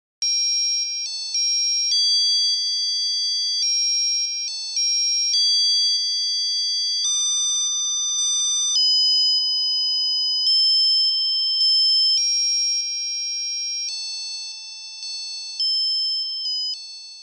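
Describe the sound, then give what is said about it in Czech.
A musical paper greeting card from 1982, opened, plays its tinny electronic tune: a steady run of bright, buzzy beeping notes stepping up and down in pitch, loud and unbroken for about seventeen seconds, with no voices. “No a když se to papírové přáníčko otevřelo, tak se ozval tento zvuk.”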